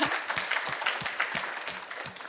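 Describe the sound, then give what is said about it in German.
Steady audience applause welcoming a young mother invited up by the host, a dense crackle of many hands clapping at a fast, even rhythm, fairly loud and sustained throughout with no voices on top. “Ein Applaus für sie.”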